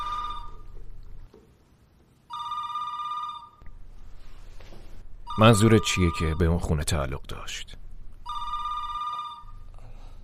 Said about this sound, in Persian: تلفن داره زنگ میزنه.